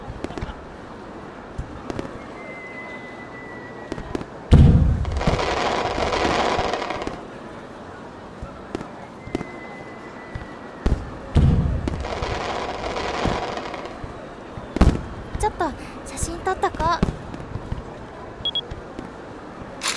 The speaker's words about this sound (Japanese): 花火が一緒に入るように。あ、近い。